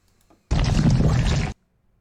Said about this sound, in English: What? It's a river of slime.